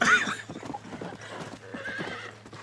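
A horse whinnies loudly at the start, then hooves clip-clop in a steady rhythm, with a faint low hum running underneath.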